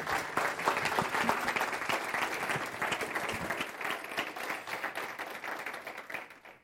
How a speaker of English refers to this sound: All of us can't embrace him, but would you please just embrace him with your love and appreciation for the word he's going to bring today with your applause?